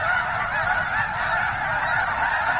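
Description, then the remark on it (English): A dense chorus of honking geese, ducks and other waterfowl at a migration stopover in Nebraska's rainwater basin wetlands in late winter calls steadily throughout, many birds overlapping with no pauses, creating a continuous clamorous wall of sound. “He says it's an amazing thing to witness those birds during their stopover.”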